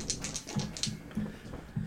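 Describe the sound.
A voice imitates a dog's woofing with a quick run of short, fairly loud bark-like yelps, about five or six in a steady rhythm, without other talk.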